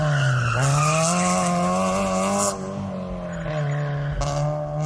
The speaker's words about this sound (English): Waiting at the red light, teens revved their engines and accelerated at the green, trying to get the loudest tire screech possible.